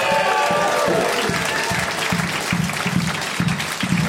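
A small group claps in an uneven, steady patter for about four seconds, the hand claps loud and continuous with a faint murmur of voices beneath.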